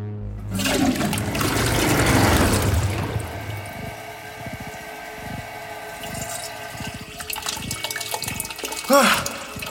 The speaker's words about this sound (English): Hop on my lap. Let's get flushing.